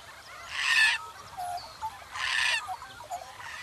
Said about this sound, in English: I think it's a bird, and I'm pretty sure I know what kind. Let's go and find out. Do you know what bird is making that sound? It's black and white, and it's very common.